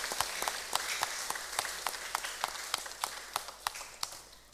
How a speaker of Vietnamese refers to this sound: Cho một tràng vỗ tay thật lớn để tán dương giới truyền thông Việt Nam.